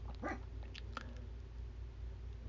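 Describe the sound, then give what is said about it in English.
The speaker's female dog barks a couple of times, the short yaps faint and muffled over a steady low background hum. “And my dog, she can hear her barking over there.”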